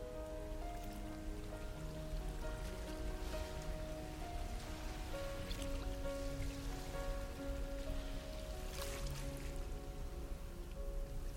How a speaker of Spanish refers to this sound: Escucha el sonido del mar.